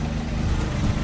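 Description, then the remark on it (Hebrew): A Ranger off-road vehicle's engine idles with a steady low rumble, a dense, throbbing low-end drone and faint hiss above, holding an even level throughout with no voices. “אני מניח מי ניתן לנו קצת סאונד של ריינג'ר.”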